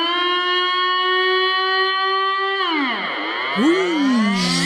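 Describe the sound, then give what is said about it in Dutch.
A national civil defense siren sounding at 12 noon on the first Monday of the month: a loud, steady siren tone holds for a few seconds, then its pitch drops and bends in swooping glides, with a harsh, distorted edge. No voices are heard. “Iedere maand een aflevering op de eerste maandag van de maand als de landelijke sirenes loeien om 12 uur.”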